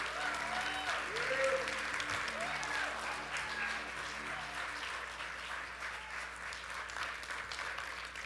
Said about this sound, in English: So ladies and gentlemen, can you give a warm West Highland applause for William Cyprian?